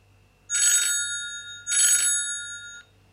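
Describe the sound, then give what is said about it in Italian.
A telephone rings twice in a steady rhythm, each bright metallic trill lasting about half a second, clear with a faint low hum underneath and no voices. “Al telefono.”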